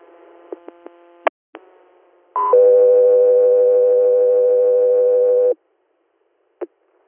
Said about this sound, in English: stand by for tones.